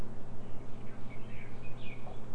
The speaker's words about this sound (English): Birdies. What? Yeah, I hear those birds.